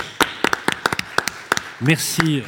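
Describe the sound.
Audience applause, thin and rhythmic: a series of sharp, evenly spaced claps about four per second, followed by a voice starting to speak over the last claps.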